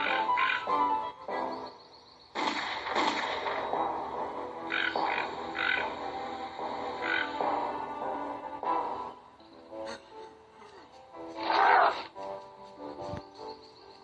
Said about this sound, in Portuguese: os animais da floresta começaram a gritar para chamar o Curupira